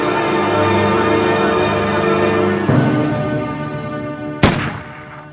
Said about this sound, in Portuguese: Eu ouvi um tiro, parece que veio lá de dentro do Palácio do Catete.